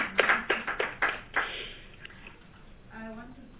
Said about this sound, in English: Thank you very much. I think we deserve a round of applause. It was a hectic bill.